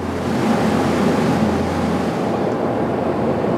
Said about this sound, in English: After a few dozen Hail Marys and some other stuff I learned in Hebrew and Arabic for good measure, the engines roar to life and we take off.